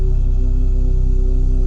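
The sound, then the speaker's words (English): A steady, continuous humming of two sustained tones, the first and second chakra frequencies, one low and one an octave higher, sounding together at a constant level with no pauses and no words. “Both chakras at the same time humming.”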